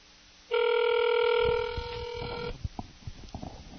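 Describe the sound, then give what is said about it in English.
An outgoing phone call's ringback tone sounds once, a steady two-second electronic tone with layered pitches, followed by faint clicks and line noise as it falls quiet. “Well, we have a ringtone, and maybe we'll get an answer.”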